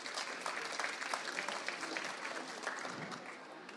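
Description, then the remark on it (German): Sustained applause from an audience, a dense steady patter of many hands clapping at once, fairly loud and continuous for a few seconds with no voices standing out. “Das war nicht Ihr erster Applaus, ne?”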